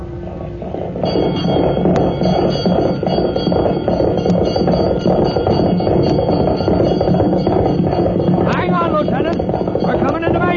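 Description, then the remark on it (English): Fire bells and church bells clang continuously in alarm over a loud, dense rumbling commotion, with indistinct voices mixed into the din. “And back in those old days when the fire bells rang and all the church bells joined in to give the alarm”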